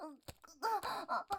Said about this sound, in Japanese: なんかマジで泣いてない？